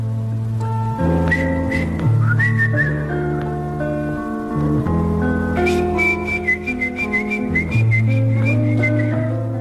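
A clear, high whistled melody glides and sustains long notes over a steady instrumental accompaniment, loud, with no voices.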